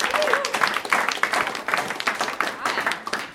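An audience applauds, a steady wash of many hands clapping with dense, crackling bursts that swell and ease in waves, mixed with faint crowd murmur throughout.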